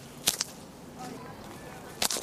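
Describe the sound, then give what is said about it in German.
Snowberries (Knallerbsen), laid on the ground and stepped on briefly and hard, popping underfoot: four sharp, snappy cracks in two quick pairs, separated by a pause of about two seconds, each crisp and bright over faint background noise. “Das sind Schneebeeren, besser bekannt als Knallerbsen.”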